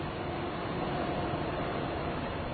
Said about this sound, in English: And, oh yes, there's also a bunch of train tracks here. The train's just passing now.